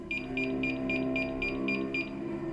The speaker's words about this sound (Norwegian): Hun hadde en knapp ved siden av senga si, og jeg hadde en stor sensor inn på rommet mitt. Akkurat som en ringeklokke. Den skulle kun benyttes i nødstilfeller.